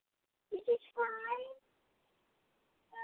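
A cat named Butters meows: a couple of short chirpy calls followed by one longer, drawn-out meow, then silence before another meow begins at the end.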